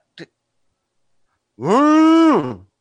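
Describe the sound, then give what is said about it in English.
A voice imitates the Star Wars siren as a sound effect: a loud, sustained, buzzy hum held for about a second, rising slightly before sliding down at the end, preceded by a brief click. “It's the Star Wars siren, of course.”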